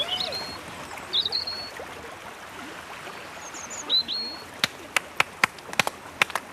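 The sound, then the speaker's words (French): A small stream babbles steadily as someone crosses a small bridge and walks alongside it, with a few high bird chirps early on and a quick run of sharp clicks toward the end. “Nous passons sur un petit pont et nous longeons un petit ruisseau.”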